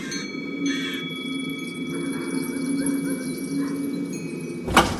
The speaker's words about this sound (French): La porte se rouvrit.